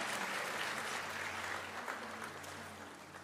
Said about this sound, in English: Love your enthusiasm. That applause is like a big amen, thanking God for each one of these.